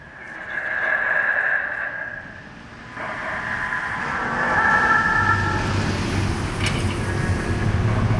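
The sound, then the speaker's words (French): Steady city traffic noise at the busy intersection of Sanguinet and Maisonneuve, with pedestrians crossing and vehicles passing, and a broad rumbling wash that swells and fades, plus a faint siren-like tone and some wind buffeting. “à l'intersection Sanguinet et Maisonneuve, croisement des passants.”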